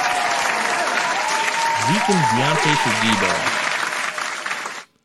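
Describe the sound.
Loud, dense applause fills the scene, steady clapping from many hands with a voice briefly calling out over it before the sound cuts off abruptly near the end.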